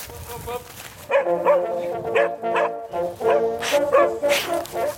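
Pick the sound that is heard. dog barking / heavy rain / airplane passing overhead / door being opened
dog barking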